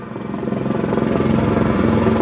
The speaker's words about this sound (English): This trip over the LA traffic is fast and the views are great, but helicopters are big, loud, expensive to run, and restricted as to where they can fly and land. So they're never going to be a solution for everyone.